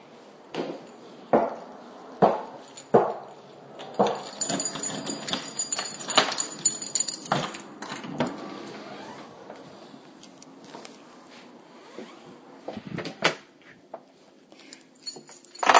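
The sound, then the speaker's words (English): Someone comes into a house through a door: a string of sharp clicks and knocks, shuffling and rustling in between, with scattered thumps and a louder clunk at the very end. “You asked me to record coming in the house, so I have.”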